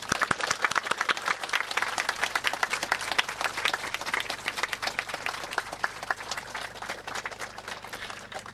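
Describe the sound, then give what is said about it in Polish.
A crowd applauds steadily, with dense overlapping claps holding at an even, fairly loud level for several seconds before easing slightly toward the end. “Wielki Bóg zapłaci oklaski dla was.”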